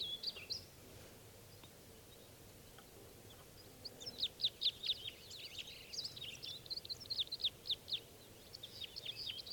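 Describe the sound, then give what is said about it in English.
About three small birds sing in spruce trees near a net setup, calling in quick, high-pitched chirps: a brief note at first, then a busy run of bright tweets over the second half, above a low steady rumble. “About 3 of them are still here in the spruces near the net setup.”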